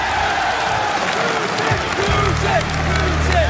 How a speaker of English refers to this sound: Can we give a round of applause for Russia?